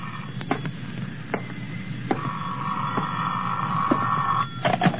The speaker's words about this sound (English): phone's ringing, Johnny. Uh-huh.